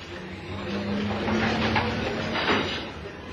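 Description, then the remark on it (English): A door slides open with a mechanical rumble and low hum, followed by a couple of scraping, rattling bursts as it moves along its track, steady in volume. “Okay. There's the door.”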